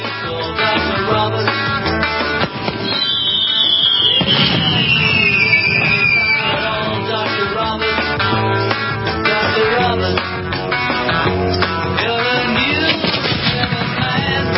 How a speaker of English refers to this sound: You may have been hearing that in your neighborhood last night. The fireworks, that is.